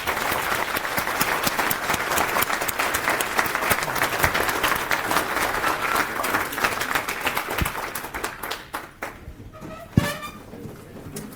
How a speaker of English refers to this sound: Okay. Is there another question? Okay. Yeah, I guess then we close it. Give another round of applause, please.